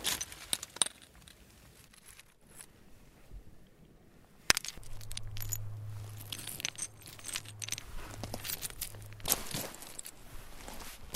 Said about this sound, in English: it's a very kind of high-pitched little clink. And these rocks are quite high-pitched. I liked the sound, actually, so I stopped and so that I could hear it.